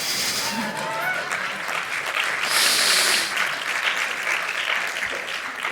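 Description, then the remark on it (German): An audience claps steadily for several seconds, a dense crackling wash of many hands that swells briefly around the middle before settling back, with no voices standing out. “Möchte jemand klatschen?”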